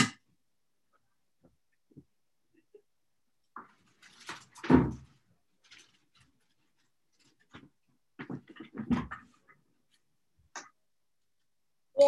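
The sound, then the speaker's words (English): A door swings shut with a solid thump midway through, followed by a cluster of rattling and knocking sounds as it is latched; otherwise quiet, with a few faint clicks. “I need to close my door too.”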